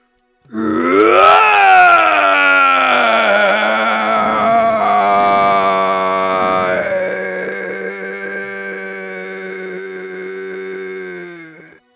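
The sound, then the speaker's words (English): A lion roars angrily in one long, loud, rumbling bellow that swells at the start, then holds a steady growling tone for about eleven seconds before tapering off. No one speaks. “He was so angry that he shivered all the animals and trees of the jungle with his roar.”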